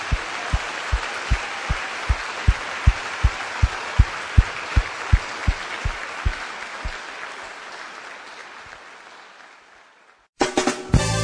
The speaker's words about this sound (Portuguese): Se você quer ser visitado pelo Espírito Santo para oferecer a Deus uma versão melhor de vida, levante assim a sua mão, olha, e dê uma salva de palmas a Jesus, porque Ele merece.